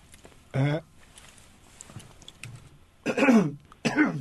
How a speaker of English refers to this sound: Well, excuse me, I had to cough.